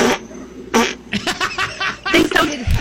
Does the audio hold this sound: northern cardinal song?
no